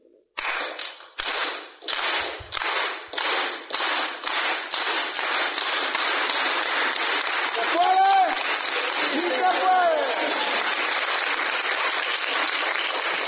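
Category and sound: crowd, group clapping in unison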